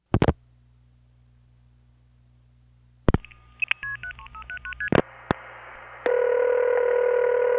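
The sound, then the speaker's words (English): A telephone call to a number in Suffolk County, on the eastern end of Long Island, connecting: a couple of sharp clicks, a quick run of stepping dialing tones, more clicks, then a steady buzzing ring-type tone that holds to the end. No one speaks. “from Neil's house, the call would go through like this. But from my house, it went through like this.”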